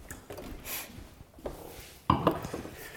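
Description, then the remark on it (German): A 2017 Sauvignon Blanc Gebirg from Weingut Pollerhof in the Weinviertel, Lower Austria, 14.5% alcohol, is poured into black tasting glasses: a soft rushing splash early on, a brief knock, then a couple of bright glassy clinks near the end, with no talking. “So, da kommen die Gläser gut gefüllt.”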